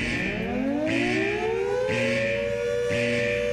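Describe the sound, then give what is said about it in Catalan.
A loud alarm siren winds up in a long rising wail, steadying into a sustained tone, with a regular pulsing beat underneath about once a second. No one speaks. “Compte, alarma.”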